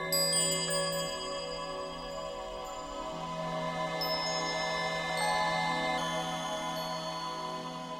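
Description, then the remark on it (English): Shimmering, magical chimes from the score of the film Blade Runner, in the scene where Deckard first interacts with Rachel, ring out in sustained high tones over a soft, steady orchestral bed, with bright bell-like notes entering now and then and lingering throughout. “A different association to chimes when Deckard is first interacting with Rachel.”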